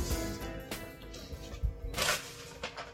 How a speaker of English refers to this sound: Paper noise.